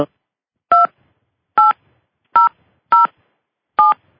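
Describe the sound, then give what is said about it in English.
Five short dual-pitched phone keypad beeps are punched in at an uneven pace as someone enters a subscriber PIN to join a recorded conference call, each tone loud and crisp against silence with no voices. “Please enter your subscriber PIN.”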